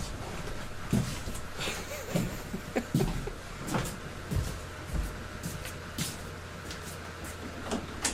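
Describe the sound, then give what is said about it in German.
Heavy stomping footsteps of someone walking away thud in an uneven rhythm against a low background hum, with a door-like knock or scrape mixed in as they go through a door. The steps are moderately loud. “Du hörst wirklich, wie der wegstampft und da irgendwie, wie ich gerade durch die Tür geht.”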